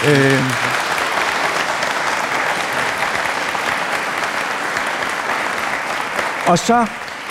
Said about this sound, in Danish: Men altså, jeg vil i hvert fald til jer alle tre, og jeg vil opfordre publikum til at klappe. Jeg vil sige tusind tak, fordi I ville komme.